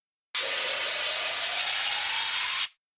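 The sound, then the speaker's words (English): Air hisses steadily into a car tyre in one unbroken, bright rush lasting just over two seconds, loud and even, with a faint lower whine beneath it, then cutting off sharply. No one speaks. “No, but I can fill the wheel with air, said Grandad Dog.”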